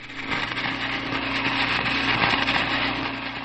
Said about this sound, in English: Many museum goers are at first not sure about Richard Garrett's work, which he calls Before Me. The work produces the sound of a glass marble spinning on the metal casing of a phonograph turntable.